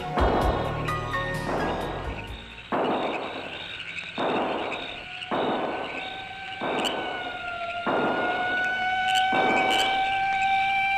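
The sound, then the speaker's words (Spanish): Police car sirens wail steadily in the town of Bayamo near one in the morning, the tone sweeping up and down in repeated cycles, with a fainter second siren mixed in and a low rumble of traffic underneath. “Los bayameses duermen acompañados del ruido de sirenas y carros policiales.”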